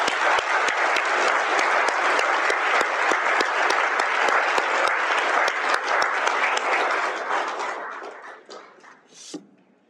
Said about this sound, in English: So with that, I think what I would like to do again, to give a round of applause, please, to our speakers.